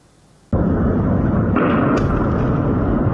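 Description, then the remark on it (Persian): After a brief quiet moment, a sudden loud explosion erupts into a sustained, roaring rumble, with a couple of further blasts cracking through it. These are explosions at dawn on a Tuesday at the port of Latakia, Syria, from several missiles fired from the Mediterranean Sea that hit the port's container area. No one speaks. “انفجارهای بامداد سه‌شنبه در بندر لازقیه سوریه.”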